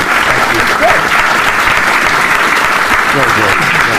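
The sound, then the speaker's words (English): An audience in Dallas claps for two speakers in a sustained, dense round of applause, loud and steady throughout the whole stretch, with a faint murmur of voices mixed into the clapping. “Otherwise, please, let's give these two a round of applause.”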